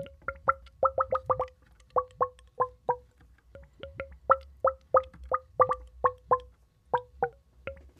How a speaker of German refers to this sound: und zwar hat eine Freundin von mir diese Muschel gegeben, und wir haben herausgefunden, dass wenn man da Wasser reinfüllt und die dreht, dann bewegt sich das Wasser innerhalb dieser Windung und macht ganz merkwürdige Geräusche.